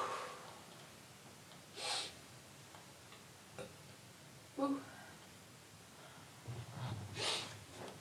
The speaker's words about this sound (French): Ah, putain, je renifle maintenant.